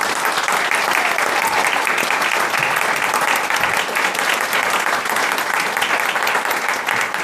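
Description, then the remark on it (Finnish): Audience applause at the 2018 Music and Magic Conference, for two guests, fills the whole stretch, a steady dense wash of many hands clapping at an even, fairly loud level with no voices standing out. “eiköhän anneta lämpimät aplodit”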